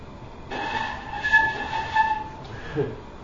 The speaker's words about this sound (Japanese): 楽器って昔からほとんど構造変わっていないんですよ。昔と同じ音なんですね。例えばこの笛、流笛という笛です。これは古代の笛なんです。これは古代の音が出るんです。